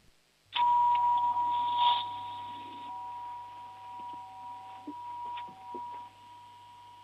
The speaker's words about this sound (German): Und jetzt hätte ich gerne noch deine Türklingel gehört.